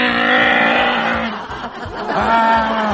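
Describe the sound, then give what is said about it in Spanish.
A voice loudly imitates a car with a burst exhaust pipe driving in the street, making a sustained, rumbling, sputtering drone with rapid rhythmic pulses for about three seconds. “A mí, por ejemplo, lo que me molesta, sí, pero lo que me molesta y me saca de onda cuando voy en la calle son esos autos que andan con el tubo de escape reventado y de repente tú estás ahí parado en la esquina.”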